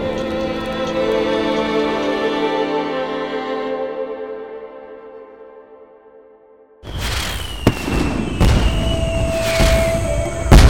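A long ringing tone fades away, then fireworks burst in, loud, with sharp pops, fizzing crackle and thin whistling streaks, spraying sparks up in a fountain of light, that keep going to the end.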